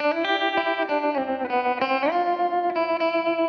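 An effects-laden electric guitar plays the opening of a solo with a guitar trick, sustained distorted notes with a chorus shimmer sliding and bending upward midway, then holding steady. No voices, just the processed guitar.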